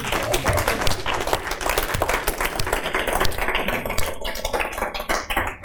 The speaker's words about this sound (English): Amen. I said, somebody give God a hand clap.